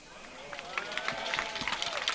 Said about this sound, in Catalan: Aplaudiments.